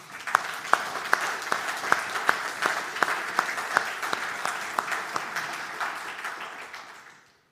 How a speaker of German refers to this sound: Und ich finde, das machen die Teilnehmer des Teenkreises auch heute echt super. Vielleicht können wir an dieser Stelle einmal klatschen.